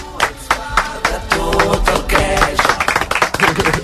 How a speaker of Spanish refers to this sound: Ha sido el aplauso más triste casi que el del ganador de la zona de interés